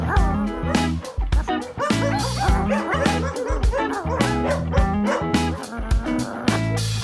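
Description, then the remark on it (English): A dog barks and yips in a rapid, nearly continuous string of loud bursts, with a few whimpering tones mixed in. “Yes, I am a dog.”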